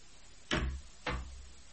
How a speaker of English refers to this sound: Wait. Wait, Tink. I'll close the window.